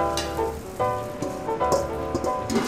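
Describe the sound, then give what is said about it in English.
Steady crackling sizzle of potatoes frying in hot butter, fairly loud, with dense popping and spitting over a continuous hiss and a few faint clinks. “So our butter's nice and hot. We add the potatoes. You can hear it kind of sizzling.”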